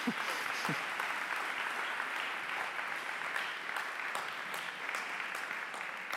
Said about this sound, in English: All right, you can clap for them as they leave.